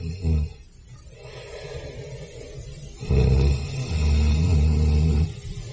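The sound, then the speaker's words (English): A man snores in his sleep: deep, rumbling snorts with a rough, buzzing texture. A short one comes first, then after a pause a longer, louder pair of drawn-out snores. “What's that noise? He's fallen asleep.”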